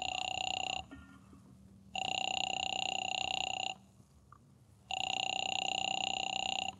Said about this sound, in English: Phone seemed to ring forever. And just when I was about to hang up...